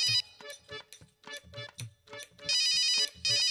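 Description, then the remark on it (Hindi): A phone ringtone plays as a call is being placed, a bright electronic melody of quick repeated notes that swells into longer, louder sustained tones near the end, with no voices. “ए भाई बस फोनवा हम एकदम लगावत हिला, तैयारी में हिला भैया।”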